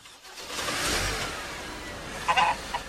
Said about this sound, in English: They drive away.